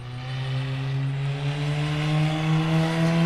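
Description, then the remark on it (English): A race car engine drones steadily for a few seconds during its final practice laps at sunset, its buzzing pitch holding level and then edging slightly upward as it pulls along the track, fairly loud with no voices. “It's been a few hours, and Cole's finishing out his final set of laps.”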